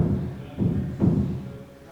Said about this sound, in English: That is really a lot of hammering. I know, I'm trying to figure out. That is 100% my office straight above us. So. Are they supposed to be hanging something in your office? No. Well, it looks like they are. It sounds like it.